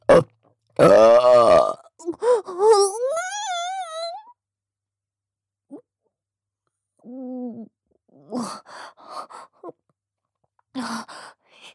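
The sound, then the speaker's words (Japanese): A loud burp rumbles out for about a second, followed by a rising, wavering vocal moan and a few softer, scattered vocal sounds with pauses between them. “ゲップしながら行っちゃう。”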